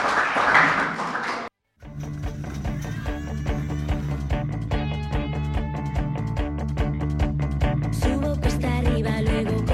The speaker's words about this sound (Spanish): Un aplauso para vuestros compañeros.